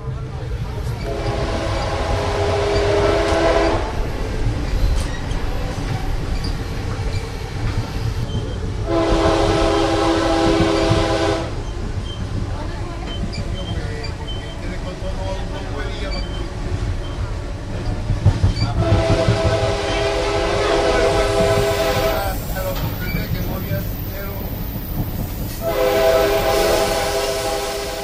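A passenger train rumbles steadily along the rails through patches of jungle beside a canal, heard from its open observation area, with a continuous low roar, rattling wheels, and several loud horn blasts sounding in long bursts over the noise.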